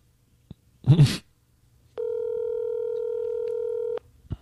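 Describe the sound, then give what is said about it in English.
An old cell phone held up to a radio microphone to place a call: a brief rustling bump, then a steady electronic dialing tone hums for about two seconds before cutting off, with a faint click after. “This is the old cell phone holding it up to the microphone.”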